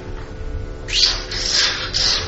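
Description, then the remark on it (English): A small bird chirps three times in quick succession, the high bright calls fairly loud over a faint low background hum, with no one talking. “He said, in case you don't know bird language, this means, don't despair.”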